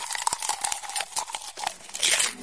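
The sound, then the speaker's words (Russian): Dry crunching and crinkling of paper in quick, uneven bursts as a bookworm munches through pages, continuing steadily for a couple of seconds with no voices. “Хрум-хрум-хрум, чок-чок-чок, я книжный червячок.”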